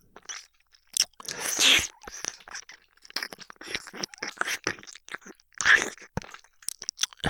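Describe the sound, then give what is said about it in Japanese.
Wet, smacking mouth sounds of ear licking growing more intense, the wet sounds getting stronger: a rapid irregular stream of moist clicks and slurps with louder bursts, continuing steadily without any speech. “水音も強くなります。”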